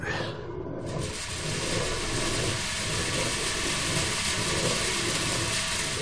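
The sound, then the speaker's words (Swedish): Windmill millstones grind grain into flour, with the grain poured into a hopper and running down a chute to the stones, making a steady, continuous low rumble and rough hiss that holds an even loudness throughout without pauses or voices. “Ljudet av säd som blir till mjöl.”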